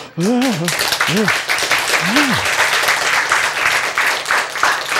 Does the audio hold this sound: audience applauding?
yes